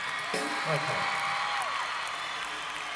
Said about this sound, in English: We can tell by the overwhelming response that you were really moved by that song and that haircut. A fine round of applause for our haircutter